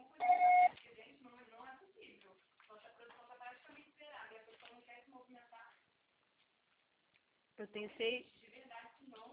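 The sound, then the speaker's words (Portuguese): A single loud, steady mid-pitched answering machine beep, the signal to record a message, sounds for under a second, then muffled, telephone-quality voices talk, with a brief pause before speech resumes. “Seu acessório será tarifado após o sinal.”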